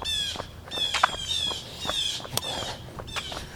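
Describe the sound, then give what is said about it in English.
Gentle birdsong outdoors during a run: repeated high, bright chirps and trills over a steady rhythmic thud of footsteps from someone running, with no voices. “So yeah, I want to get between 10 and 13 as you hear some gentle birds accompanying me along the run.”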